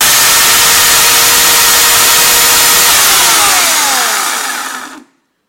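A chainsaw engine roars loudly and steadily for about five seconds, then its pitch winds down and it cuts off abruptly into silence, with no voices.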